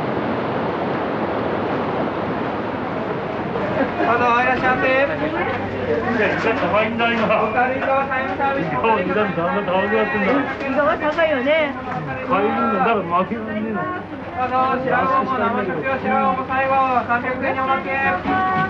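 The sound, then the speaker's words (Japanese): Busy crowd bustle at the Yuriage morning market in Natori, selling squid, tuna, turban shells and local seri greens, with many overlapping voices chattering loudly and continuously after a few seconds of windy, surf-like outdoor noise near the Pacific shore. “閖上朝市は震災から2年後に再開。イカ、マグロ、サザエなどの魚介類から名取名物セリも並んでいます。”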